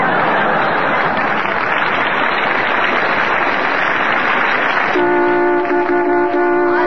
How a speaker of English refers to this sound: Hey, hi, what's this? Somebody parking their car right in the studio? Oh, relax, Bob. This isn't a real car. It was just a sound effect to remind everybody about Lever Brothers' big new contest.